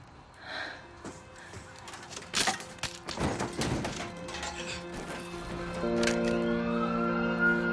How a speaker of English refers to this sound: He peers outside. Emergency vehicles converge at his house.